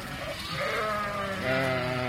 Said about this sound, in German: Seit dem letzten Jahr wird diese Strecke sauber gehalten mit einer Schafsherde. Das sind holländische Schafe, die fressen auch deutsches Gras. Von Groesbeck aus laufen die mit einer Herde von 300, 400 Schafen über die Gleise.